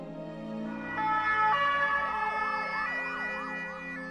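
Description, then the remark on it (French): An ambulance siren wails with a rapidly wavering, rising and falling tone, fairly loud, over a low engine rumble, as Jonathan Daval is evacuated by ambulance after collapsing on the third day of his trial, with no one speaking. “Maladroitement, il présente quelques excuses à la famille d'Alexia, mais à la fin de la journée, pris d'un malaise, Daval s'effondre. Il est évacué en ambulance.”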